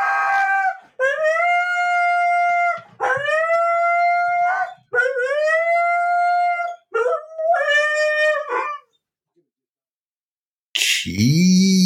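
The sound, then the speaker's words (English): A dog howls, wanting to be let out, in a run of five or six drawn-out, wavering cries, each rising then holding a high pitch, loud and alone, followed by a short silence and an abrupt harsh burst. “We're about to get a Fonzie yell. He wants to get out.”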